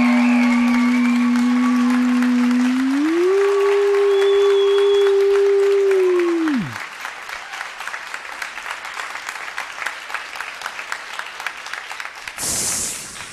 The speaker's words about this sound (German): Und jetzt euer Applaus